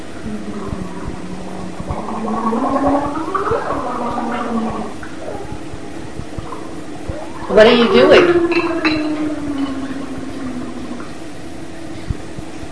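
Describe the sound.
Gurgling bubbles from a child in a booster chair blowing into a drink through a straw, two bursts with the second louder and busier, while a voice talks briefly.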